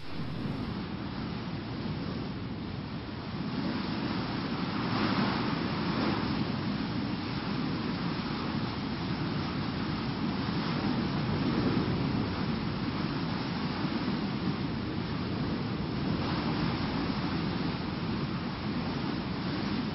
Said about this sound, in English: Hermon at 9,200 feet descends into the warm air of the Sea of Galilee and creates storms with hurricane-force winds that come on suddenly and without warning. Check out this video for just a few seconds of what even a mild windstorm looks like there.